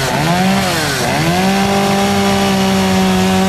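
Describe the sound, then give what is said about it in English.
A loud chainsaw snarls and bogs down as it bites into a barrel, its engine pitch dipping twice before settling into a steady, high-revving cut with a gritty grinding edge. “It's got a chainsaw. It's going in a barrel.”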